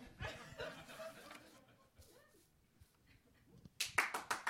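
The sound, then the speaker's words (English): A few people clap to welcome a deacon up to take the offering at a ministry service, in a thin, scattered burst that quickly fades to quiet, then a short flurry of louder, sharper claps returns at the end. “Because I've been gone forever, the claps get weaker.”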